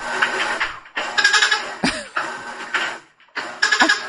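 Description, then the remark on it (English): A washing machine churns through its agitation cycle in loud, rhythmic bursts, each swish carrying a squealing, bleat-like groan, with brief pauses between the strokes. No one speaks. “That's the washing machine.”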